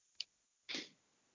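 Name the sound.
sneeze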